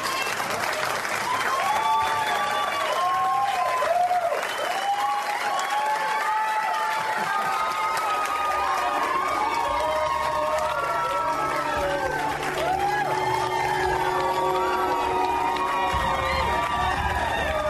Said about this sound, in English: The fake, overenthusiastic applause is disturbing to Ryan. It's obvious to him that Jones has coached these people how to act.